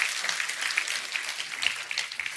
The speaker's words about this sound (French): Est-ce qu'on peut applaudir tous les pères qui sont présents dans la vie de leurs enfants?